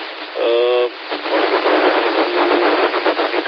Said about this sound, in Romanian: s-aude multă păcăneală de la toba mea